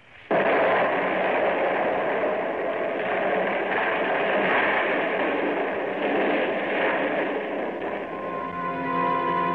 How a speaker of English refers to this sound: Everything else was exactly the same, including that 12 sticks of dynamite with the fuse sputtering. And now, the dynamite was going to go off because I wasn't outside to stamp out the fuse. And as we hovered there, it did.